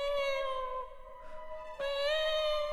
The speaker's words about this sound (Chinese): 可就在这个时候，突然门外传来了猫叫声，很凄惨的猫叫。